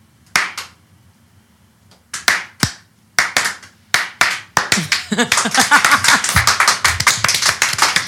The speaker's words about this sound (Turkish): Arkadaşlar yavaşça alkışlayalım şimdi onu. Daha yavaş, daha bekleyelim.